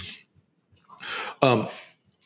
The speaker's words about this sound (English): By the way, the sneezing you're hearing, my dogs are rolling around on the floor like they're puppies right now. Both of you, enough.